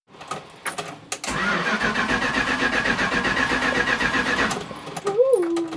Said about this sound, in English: It was rotten beyond, but it had a really good engine. But it remains an engine that's difficult to start.